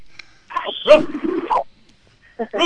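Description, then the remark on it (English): A person's voice imitates a dog, giving one drawn-out, gruff bark-like yelp, followed after a pause by the start of another short vocal bark. “No, I want to hear a bark. I need your bark.”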